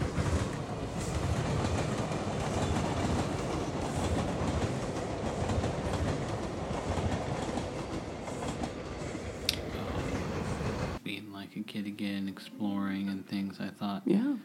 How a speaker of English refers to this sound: Looking out at the cars going by on the freeway, the railroad tracks, the trains going by, makes me feel like a kid again. Here comes the train.